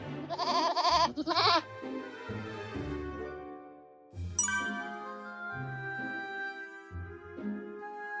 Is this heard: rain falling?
no